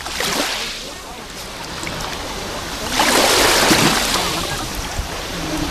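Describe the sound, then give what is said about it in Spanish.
Waves break and wash up the shore of the beach at Salobreña close to the microphone, a steady hissing surf that swells twice, briefly at the start and more strongly midway, before easing back. “Acercamos el micrófono a la orilla del mar, así suena hoy la playa de Salobreña.”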